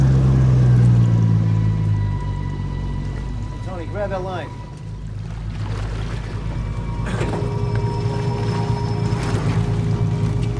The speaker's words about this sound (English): … steers Dan's fishing boat alongside his impressive boat.